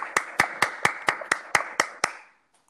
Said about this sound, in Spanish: Está en Monterrey y pues le damos un fuerte aplauso. Bravo.